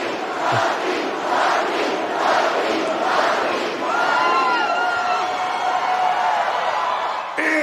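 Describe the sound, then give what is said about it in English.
A loud crowd at a live wrestling match in an arena roars and cheers steadily for several seconds, a dense wash of many voices with rising whoops and shouts swelling through it. “Listen to the crowd.”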